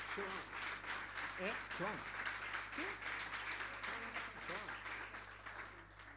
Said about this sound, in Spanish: Muitas graças também, então, e um aplauso para a gente que está no som ali, trabalhando no sonido. Muitas graças.